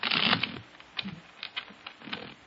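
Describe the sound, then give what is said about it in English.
A deck of playing cards is shuffled: a dense burst of rapid riffling clicks at first, then a few scattered soft taps and flicks, with no one speaking. “Now, I shuffle the cards.”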